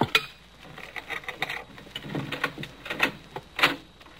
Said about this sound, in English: It'll probably come through the French windows. It's the most inviting entrance. On your guard. Cutting out a pane of glass.